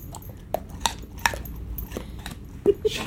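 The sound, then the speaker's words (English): A Labrador dog crunching on carrots, in a recording from 2010: a series of sharp, irregular crunches and snaps, about seven in three seconds, with quieter chewing and soft mouth sounds between them. “Well, for one, it's absolutely adorable to hear him crunch, crunch, crunch, crunch.”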